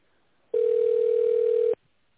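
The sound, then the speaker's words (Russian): A telephone ringback tone sounds once while waiting for an answer on a call to the company Rosgeologiya: a single steady, mid-pitched beep lasting just over a second, fairly loud, then cutting off to near silence with no talking. “Если вы знаете внутренний номер абонента, пожалуйста, наберите его или дождитесь ответа.”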